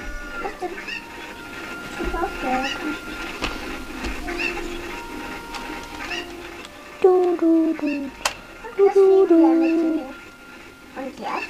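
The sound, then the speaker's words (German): A dog gives two bursts of loud, high, drawn-out whining cries that slide downward in pitch, with people talking quietly and a steady outdoor hum in the background. “Das noch ein Hund.”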